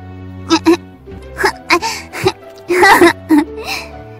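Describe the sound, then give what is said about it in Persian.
A high, child-like voice whimpers in a series of short, broken cries, clear, over a faint steady low hum in the background, heard while Geppetto is busy working on a piece of wood from the forest. “همینطور که سرگرم کار بود، صدایی مثل صدای بچه شنید.”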